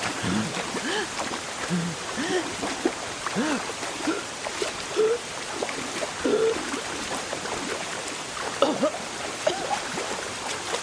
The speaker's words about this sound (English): But then I was underwater. The river wasn't large, but it was fierce. I struggled to keep my head up.